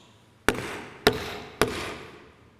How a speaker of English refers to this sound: The picture here is of a judge knocking. How do you think a judge knocks?